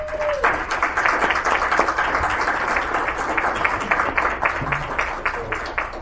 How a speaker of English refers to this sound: So like I said, could we give Chief Carrillo and his group a round of applause?